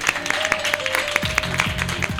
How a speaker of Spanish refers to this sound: Quiero dar muchas gracias a todo el mundo que nos ha venido a ver. Aplaudíos a vosotros mismos.